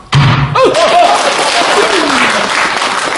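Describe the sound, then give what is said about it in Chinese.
During a Chinese storytelling performance, a wooden block is slammed down on a table with a single sharp, loud slap as a signal for the audience to applaud. A crowd quickly bursts into sustained applause, with a few voices calling out underneath. “怎么说您都不鼓掌，就有人哈了，往桌子上一摔，那意思告诉大伙可以鼓掌了。”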